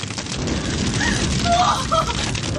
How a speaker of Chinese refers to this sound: 突然身后响起一阵阵的爆炸声，好可怕呀！一股股的浓烟夹杂着灰尘不断地飘洒下来。